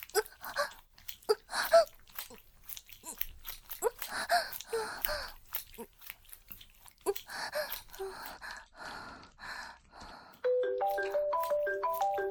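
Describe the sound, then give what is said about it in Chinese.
A phone ringtone starts near the end as the woman's husband calls, a loud repeating melodic tune of bright electronic notes stepping up and down, following a stretch of breathy, moaning vocal sounds. “是我老公给我打电话来了。”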